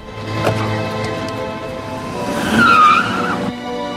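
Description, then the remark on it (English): A blue car's engine is started and runs at a gas station, then revs as the car drives off, with a short squeal of tires near the end; no one speaks. “At another gas station, she waits for a man to go and pay for his fuel, then gets in his blue car, starts it up, and drives off.”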